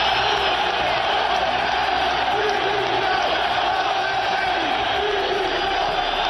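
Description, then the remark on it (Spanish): A huge stadium crowd at Sevilla's Ramón Sánchez Pizjuán stadium chants "Lopetegui dimisión" in unison, a dense, roaring wall of voices that holds steady and loud throughout, calling for coach Lopetegui to resign. “Ese era el grito del Ramón Sánchez Pizjuán, pese a la clasificación.”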